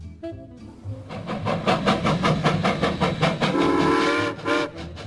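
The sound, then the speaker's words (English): A steam locomotive chugs with fast, steady puffs, and midway a steady whistle blows for about a second over the rhythmic chuffing. The train sounds fairly loud, with no talking. “So if we rewind to the 1880s, where you've got the Canadian Pacific Railway heading westwards, building its rail line, coast to coast.”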